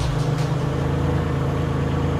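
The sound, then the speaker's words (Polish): A deep, steady virtual engine rumble from a Sound Racer device plugged into a car's cigarette lighter socket and played through the car radio speakers after starting the engine, holding a constant low drone for a couple of seconds with no revving and no voices. “Teraz wystarczy odpalić silnik, a z głośników wydobędzie się ten dziki ryk, na który czekaliśmy.”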